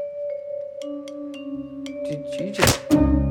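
A single sharp, papery slap as someone is slapped over the head with a newspaper bursts out over a steady humming drone with a few faint ticks before it.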